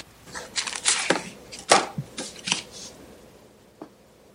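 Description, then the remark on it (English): Scratchy strokes of a pen moving across paper at a drawing table, as a cartoonist demonstrates how he draws the Baby Blues comic strip; several quick bursts in an uneven rhythm with short pauses, then a single faint scratch near the end. No one speaks. “has moved to his drawing table, and he's going to give us a little demonstration of how he draws Baby Blues.”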